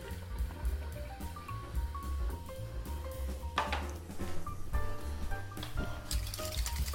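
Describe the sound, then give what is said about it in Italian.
A little warm water is poured into a bowl holding a pinch of brewer's yeast to start the leavening, a steady splashing trickle lasting several seconds, with a faint tonal background underneath. “a questo punto mettiamo proprio una puntina di lievito di birra, e per far partire la lievitazione ci mettiamo un pochino di acqua calda.”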